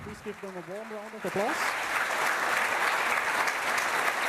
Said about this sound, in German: Applaus.